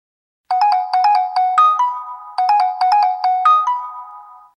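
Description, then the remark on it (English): A lost cell phone, called from another cell phone, rings from under a chair: a short, bright melodic phrase of rapid tones, repeated twice with a brief gap, loud with no one talking over it. “Then why don't you use my cell phone to call yours?”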